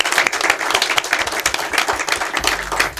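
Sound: audience applause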